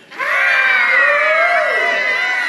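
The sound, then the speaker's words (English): A crowd lets out a sustained, loud group scream in playful mock fright, many high voices blending together for a couple of seconds before trailing off slightly. “You're the English, and you're just going to scream and be afraid.”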